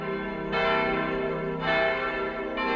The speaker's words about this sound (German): In das Zusammenspiel der 3 neuen Glocken sollte fortan nur noch die Ad-Auctus-Glocke mit einfallen, weil sich so das harmonisch sauberste Geläut ergibt. So war damals die Auffassung des Pfarrers und des Glockensachverständigen.